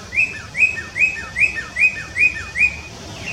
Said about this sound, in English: And now, research is finding that birdsong may be the most restorative of natural sounds, even more so than crashing waves or wind through the trees, in terms of its ability to reduce anxiety and give our brains and nervous system a much-needed rest.